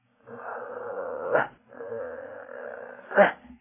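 A voice imitates a dog whining and growling at about 3 a.m., after the dog jumps off the bed needing to go out: two drawn-out, rumbling whines of about a second each, each ending in a sharper, louder rise, clear with nothing else behind it.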